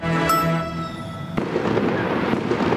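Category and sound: sound effect, fireworks exploding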